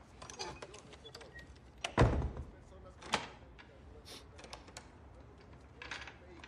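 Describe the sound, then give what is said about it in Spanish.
A door is opened with a heavy clunk of the latch, followed moments later by a sharper click, over faint background murmur and rustling. “Corre, viejo, abre la puerta.”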